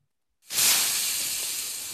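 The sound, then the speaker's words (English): A sudden, loud sizzle like food hitting a hot frying pan, bursting in after a brief silence and holding as a steady, bright hiss to the end. “Sizzle. Sizzling on the pan.”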